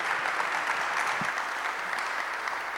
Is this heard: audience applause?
yes